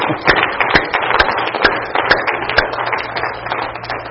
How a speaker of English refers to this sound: Just give the Lord a hand clap.